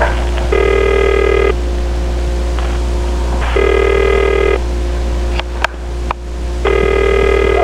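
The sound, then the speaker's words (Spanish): A telephone rings three times, each buzzy ring lasting about a second with longer silent gaps between, over a steady low hum, with a couple of sharp clicks near the end and no one answering. “Da timbre y no sale nadie.”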